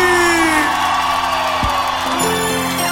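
A large crowd yells and whoops loudly all at once, a dense, sustained roar of many voices filling the space for a few seconds, with no single voice standing out.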